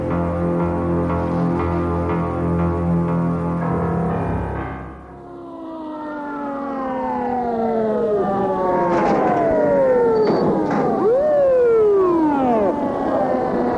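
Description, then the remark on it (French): An ambulance leaving a hospital wails its siren loudly, its rising and falling sweeps repeating over several seconds, following an opening stretch of steady, sustained droning tones. “La jeune fille a quitté l'hôpital en ambulance pour aller en maison de repos dans le Midi.”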